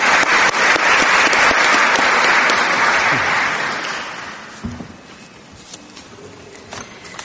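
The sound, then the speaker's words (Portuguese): A seminar audience claps steadily and loudly for two speakers for about four seconds, then the applause thins out and fades, leaving scattered claps and a few faint background noises. “Vamos então aplaudi-los.”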